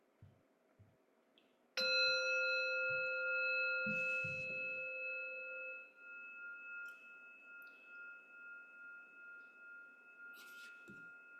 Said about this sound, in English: So I'll ring the bell.